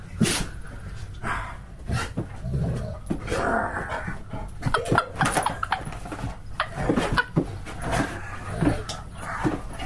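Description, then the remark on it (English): A dog named Arizona, a mobility assistance dog, growls while playing, in low rumbling stretches broken by short sharp yips and barks that come in irregular bursts throughout, fairly loud with no clear speech. “Come on, growl.”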